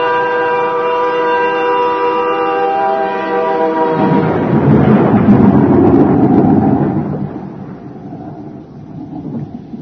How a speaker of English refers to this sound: Storm.